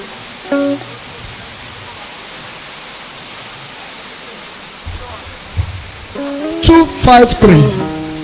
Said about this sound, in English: Okay. Let's sing one song and believe that this noise will reduce. 2:53. By the time we finish, the rain falling will reduce. In 2:53 or so.